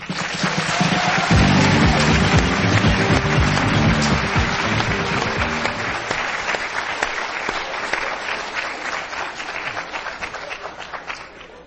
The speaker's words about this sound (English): I'm going to give you one more thing. Hopefully, it's a gift that's going to stay with you for the rest of your life. That's this applause, which is just for you.